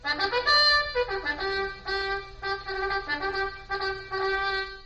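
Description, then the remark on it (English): A bugle blares a loud, brassy call: a high sustained note at the start, then a run of shorter notes shifting between pitches in a steady, repeating pattern, with no voices. “Good thing I had my bugle with me, wasn't it?”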